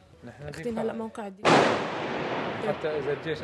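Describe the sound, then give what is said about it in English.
Voices talk briefly, then a loud, sharp gunshot cracks and echoes off surroundings, followed by a few more scattered shots in a noisy, reverberant outdoor space. The shots are fired by fighters of the Islamist group Ahrar al-Sham during street fighting, shooting back after being attacked by regime forces. “Those shots we're hearing. This is the shots, the gunshots.”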